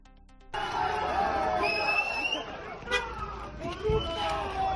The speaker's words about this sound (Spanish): Abucheos al ministro Marlaska después de su intervención en la Facultad de Comunicación de la Universidad de Navarra en esas jornadas de Contar el Terror.